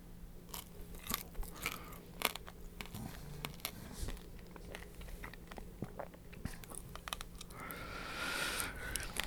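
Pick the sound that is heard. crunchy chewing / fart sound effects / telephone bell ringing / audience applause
crunchy chewing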